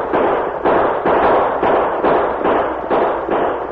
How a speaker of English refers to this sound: With his reins wrapped around the saddle horn, Roosevelt spurred his horse, drew both guns, and opened fire.